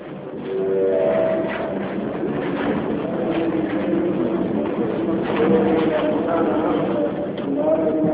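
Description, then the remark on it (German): Busy railway station ambience at the station in Nairobi, Kenya, with a steady wash of crowd chatter, pigeons cooing and faint rail and clattering sounds, continuous and moderately loud throughout. “Am Bahnhof von Nairobi, der Hauptstadt Kenias.”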